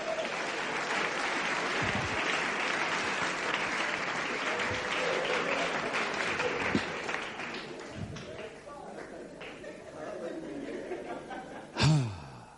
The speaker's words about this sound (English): Thank you. Clap it very well. Clap your hand.